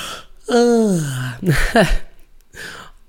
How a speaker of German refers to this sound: Und eine körperliche Reaktion kann das Gähnen sein. Und ich merke es gerade. Oh je.